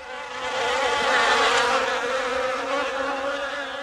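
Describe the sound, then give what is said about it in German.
A mosquito buzzes steadily, a thin continuous whine with no pauses, holding fairly loud for a few seconds and wavering slightly as it hovers. No one speaks. “Flöhe oder Mücken, ist das nicht egal? Kleine Plagegeister, die uns ans Blut wollen und juckende Pusteln zurücklassen.”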